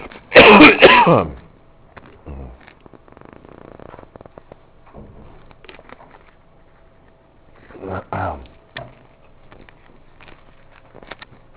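A loud throat clearing opens as a speaker pauses to have a drink, followed by several seconds of faint shuffling and quiet handling noises, then a second, shorter throat clearing.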